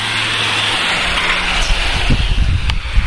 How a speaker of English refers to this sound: Lots of cars are coming through. Across the street from my grandmother's house.